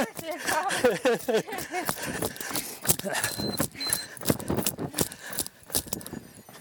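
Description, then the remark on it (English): Many runners' footsteps stomp past in a dense, irregular patter of overlapping thuds, with background voices chattering underneath throughout. “Sounds like runners. As we stomp by.”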